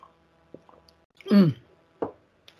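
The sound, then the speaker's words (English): A sip from a drink: soft wet mouth clicks, then a short voiced gulp or satisfied exhale, followed by another lip smack, quiet and brief with no talking. “Let me take a sip of this drink.”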